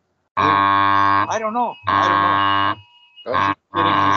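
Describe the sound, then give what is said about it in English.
A phone buzzes loudly with an emergency weather alert: harsh, droning bursts of about a second each with short gaps, then two quicker pulses. A brief voice cuts in between the first bursts. “No, I think it's his phone. My phone. It's vibrating, yeah.”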